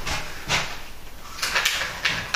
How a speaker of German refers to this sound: So, dann machen wir mal die Tür schließen.